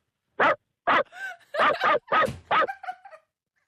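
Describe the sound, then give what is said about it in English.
A caller from Hazelbrook imitates a dog with a series of about six sharp, loud barks, a couple of them doubled, followed by short whiny yelps that trail off. There is no other talk. “Okay, I've got a dog bark for you, boys.”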